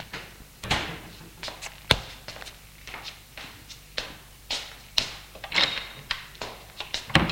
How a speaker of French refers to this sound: Alors Pierre va à la cuisine. Va ouvrir le réfrigérateur. Il voit qu'il y a du poulet froid. Il referme la porte et sort de la cuisine.